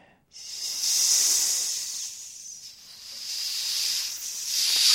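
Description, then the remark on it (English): A snake hisses in one long, steady breath, sharp and airy, rising and falling slightly in strength for several seconds, alone with no talking. “And the boy escaped the snake just like that.”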